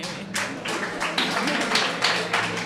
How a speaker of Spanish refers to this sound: ¿Qué clase de aplausos más pobres?